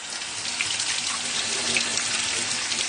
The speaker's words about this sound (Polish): Otwieramy puszkę z fasolą. Trzeba będzie tą fasolę przepłukać, żeby pozbyć się tej całej wody. Będziemy płukać partiami.